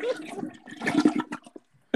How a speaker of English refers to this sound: Ew. That sounded like the toilet.